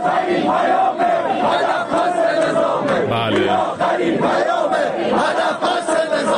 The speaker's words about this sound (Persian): البته دیگه خیلی هم اهمیتی نداره، چون مردم معترض حرفاشونو خیلی بی‌تعارف و بی‌پرده فریاد زدن تو گوش نظام اینجوری مثلا.